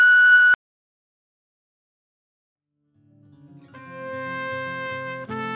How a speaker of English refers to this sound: And remember, leave your message after the beep.